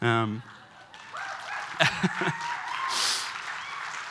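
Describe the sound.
A short burst of voice gives way to a soft wash of audience applause for the speaker's wife, with a few sharper claps standing out near the middle before the clapping fades into a quiet hiss.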